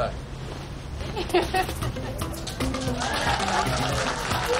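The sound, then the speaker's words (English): Families stand out front of a restaurant at its grand opening, clapping steadily throughout, a dense patter of many hands, with voices calling out and chattering underneath, moderately loud. “Their families stand out front of Now Cubish and applaud.”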